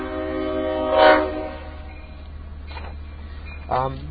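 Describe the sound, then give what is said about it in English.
A slow diesel train moving about 3 miles an hour crosses the tracks, rumbling steadily, its low engine drone continuous, with two short tonal bursts rising over it about three seconds apart. “You might be able to hear the sound of the diesel there.”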